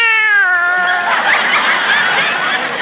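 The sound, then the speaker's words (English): A single drawn-out cat meow, loud, its pitch sliding downward before it breaks into a breathy, raspy trailing sound for a couple of seconds. No speech. “The way this cat eats is a caution.”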